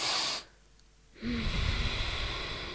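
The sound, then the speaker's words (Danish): A person demonstrates the physiological sigh, a double inhale through the nose followed by an exhale: a quick sharp intake, a brief pause, then a longer, steady breathy exhale, with no talking. “Hvor du ånder en lang gang ind gennem næsen, og så en ekstra gang, altså, jeg ved ikke, om jeg kan gøre det med lyd.”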